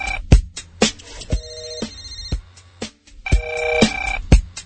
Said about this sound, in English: Telephone. Telephone. Telephone.